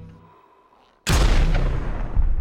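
multiple gunshots

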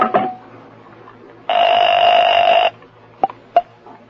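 telephone being dialed

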